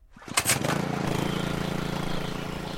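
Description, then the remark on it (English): A small gasoline engine about the size of a lawnmower engine, on a piece of equipment running a little water pump at the bottom of a canyon, sputters to life with a brief burst of rattling, then settles into a steady chugging drone. “I was running a small piece of equipment that was running a little water pump about the size of a lawnmower engine.”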